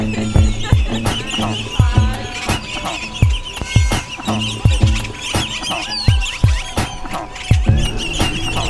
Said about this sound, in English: And now the sound of some birds for whom the border doesn't mean a whole lot.